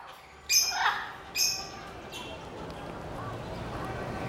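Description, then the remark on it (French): Parrots in Brazil squawk in two loud, harsh bursts close together, followed by a fainter third call, then a steady hiss of background noise with no further calls. “Des oiseaux. Des perroquets.”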